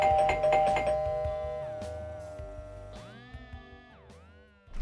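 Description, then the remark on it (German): A doorbell at the door rings with a bright, sustained chime whose tones ring out and slowly decay, followed by a few more chiming notes sliding in pitch, loud with no one speaking. “Angefangen hat es, wie schon so oft, mit einem Läuten an der Tür.”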